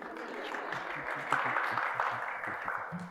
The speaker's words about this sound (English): You're supposed to clap until I get up here. That's what they told me. I can still keep clapping. Thank you.